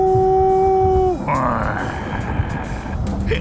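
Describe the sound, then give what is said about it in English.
A loud, deep yowl from a gigantic cat holds one steady low pitch for about a second, then slides downward and fades into a rough, rumbling growl. “It's a gigantic cat.”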